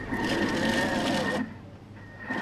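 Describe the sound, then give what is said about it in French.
A loud motorized whir of a food processor mincing chicken breast for meatball skewers, with a steady high hum over rough churning. It runs for over a second, cuts out briefly, then starts again. “On va le passer au mixeur.”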